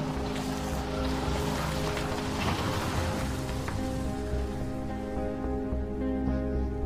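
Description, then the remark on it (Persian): A car engine rumbles steadily, its low hum holding even throughout with a rushing, hissy wash over it and no voices, as the car moves off to follow a middle-aged man walking to his own car. “ماشین دنبالش راه میافته.”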